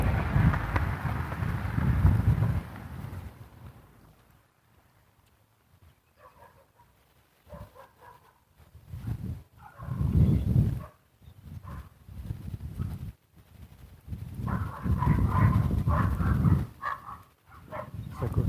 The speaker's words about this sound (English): Looks like, sounds like we're going to have a little dog action down here.